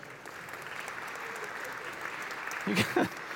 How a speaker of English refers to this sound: You guys are making me work hard for the claps.